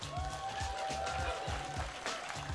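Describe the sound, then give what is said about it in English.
An audience applauds a rapper steadily with a dense wash of clapping, while a sustained whistle-like tone rises briefly above the noise for about two seconds. “You got a round of applause, ….”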